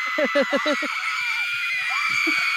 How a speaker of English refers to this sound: You hear a scream. And the scream persists longer than this. It's a longer scream. Here, let's make it persist. It's persisting.